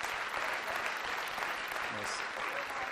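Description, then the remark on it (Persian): Sustained audience applause, a dense steady wash of many hands clapping at an even loudness for the whole stretch, with no pauses and no voices standing out. “و تشویق کنی واقعا.”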